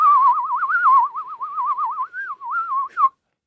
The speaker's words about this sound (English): you get a free whistling football with your order